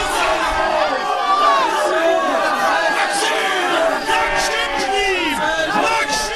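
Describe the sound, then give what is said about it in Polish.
A large crowd in a passion play shouts and yells angrily all at once, calling for crucifixion, a dense, loud wall of overlapping voices rising and falling continuously throughout. “Ja również tak krzyczałem. Byłem w tym tłumie.”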